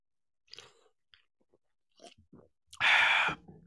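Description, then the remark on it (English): A few soft mouth and cup noises, then one loud, airy slurp lasting about half a second as someone sips hot coffee from a cup. Nobody speaks. “Now that your cup is nice and full and mine is nice and peeping hot, let me take a little sip.”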